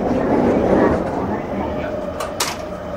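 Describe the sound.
Steady rumble and electric hum inside a moving commuter train in Tokyo, approaching Harajuku station and carrying several hundred people, with a faint murmur of voices and a couple of short hissing bursts near the end.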